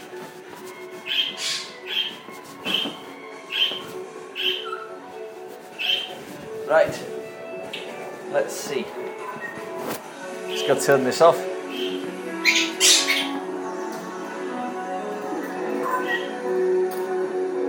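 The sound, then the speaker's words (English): A small budgie, about to be put in with the small birds, chirps and squawks in short, bright bursts, repeated irregularly, with a steady background hum and a person speaking briefly over it. “One budgie to go in the small birds.”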